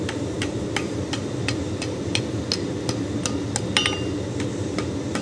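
A blacksmith at Milwaukee Blacksmith hammers hot iron over the edge of an anvil to get a curve, in a quick, steady rhythm of ringing metallic strikes, about three per second, over a constant low roar. No one speaks.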